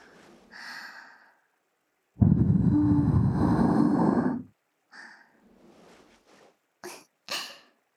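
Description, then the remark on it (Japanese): Breathy puffs of air blown into an ear: a short soft puff, then a long, fuller whooshing breath lasting about two seconds, followed by several quieter, brief airy puffs. “こちらのお耳も、ふーってしてしまいました。”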